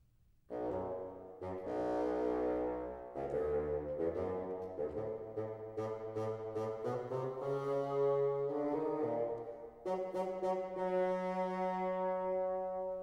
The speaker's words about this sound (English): The grandfather by the bassoon.